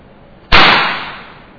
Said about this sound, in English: First one, we are going to use the clapping machine. So start, say it loud, clapping machine inside the microphone. Say it. Clapping machine.